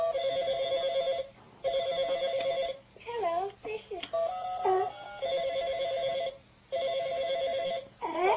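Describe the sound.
A telephone rings in steady electronic bursts, about four long trills with short gaps, loud, while a person talks briefly between the rings.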